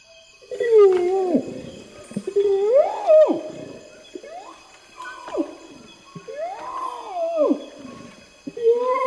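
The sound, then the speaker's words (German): An orangutan in Borneo gives a series of loud, wavering calls, each swooping up and then down in pitch, about six in quick succession. No voices are heard. “So klingt ein Orang-Utan.”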